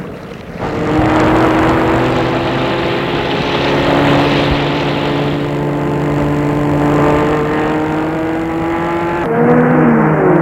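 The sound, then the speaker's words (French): A car speeds away at high speed, its engine roaring loudly and steadily for several seconds, its droning pitch holding fairly even before shifting abruptly near the end. No one speaks. “La voiture file à vive allure.”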